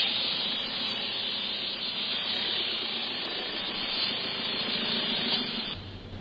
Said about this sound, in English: I started the car and continued my way on JF to the Colony House.